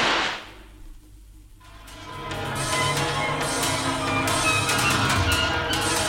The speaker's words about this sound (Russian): Петер, выстрели разок из пистолета. Посмотрим, не испугаются ли они. Петер открыл в кухне окно и, прицелившись в темноту, спустил курок. Раздался жуткий выстрел.